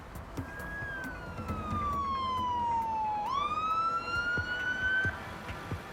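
ambulance siren

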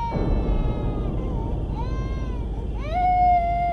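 baby crying

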